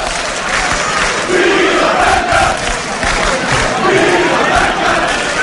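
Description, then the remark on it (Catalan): A large crowd cheers and shouts continuously, a dense roar of many voices with rising swells of whoops and cries throughout: cries of joy at a human tower (castells) event with a 5 de 9 tower, as members of the green team start jumping before the pinya breaks up. “Mira, ara comencen a saltar els verds abans que es trenqui la pinya i aquests són els crits d'alegria.”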